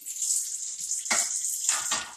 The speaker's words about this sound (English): You can just listen to me do my dishes and be grateful that you don't have dishes that you have to do.